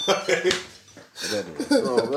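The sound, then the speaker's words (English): Keys drop and clatter with a few sharp metallic jangles, then a second bright rattle, while people talk over it. “Oh, that was my keys, I think.”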